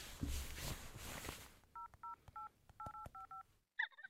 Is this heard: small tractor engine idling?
no